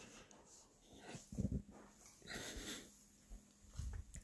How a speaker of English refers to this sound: This is a bed, buddy. You can't tear this apart. No. I'm sorry, y'all. He's still a puppy, but he's trying to tear apart one of the little dog beds.